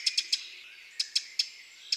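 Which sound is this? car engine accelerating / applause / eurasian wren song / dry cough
eurasian wren song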